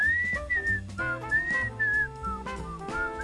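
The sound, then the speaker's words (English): Someone whistles a bright, tuneful melody, the closing theme tune of a show, in clear sustained notes, fairly loud, over a backing of instrumental music with steady bass and rhythmic accompaniment. “Is that a copyright problem if I whistle the end of your show at the beginning?”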